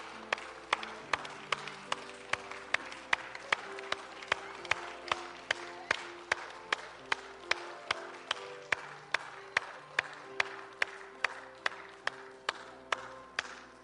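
A crowd claps together in a steady, even rhythm, roughly two sharp claps per second, over a low sustained musical drone, with no one speaking.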